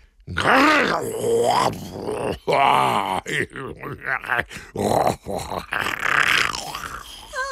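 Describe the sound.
Actor Jean-Pierre Marielle, reading the story 'Philomène et les ogres' in French, imitates a monstrous ogre's terrible growl, with long, rough, guttural groans and grunts rising and falling in pitch over several seconds, loud and strained, broken by short breaths.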